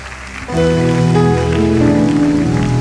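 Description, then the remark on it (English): A crowd claps as a clap offering to Jesus in a dense, steady patter that carries through the whole clip, joined after about half a second by loud sustained musical chords underneath. “Give Jesus a wave offering, a clap offering.”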